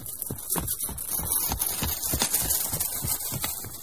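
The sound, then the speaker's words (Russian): Horse hooves clip-clop in a steady, even rhythm, each beat a crisp knock over a faint hiss of background noise. The walking pace stays constant throughout. “И решил старший сын падишаха, что дальше этого места никогда не ступали копыта коня.”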